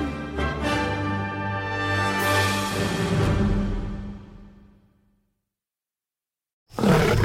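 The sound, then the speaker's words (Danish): A deep, loud lion roar rumbles for about five seconds with harsh guttural texture, fading into silence before another loud burst of sound starts abruptly at the end. “Dyrenes konge.”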